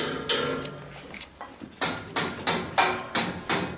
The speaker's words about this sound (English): With the help of a hammer to break away frozen padlocks, we enter the city's former Soviet administration building.